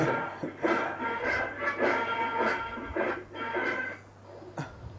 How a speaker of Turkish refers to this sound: Bu da rüya gören bir köpek şimdi bakın. Kabus görüyor galiba. Rüya görüyor. Koşuyor herhalde. Çok kötü rüya gördü.